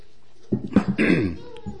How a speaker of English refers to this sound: I hope my throat stays clear enough. I've had a problem with a cough, so you pray for me.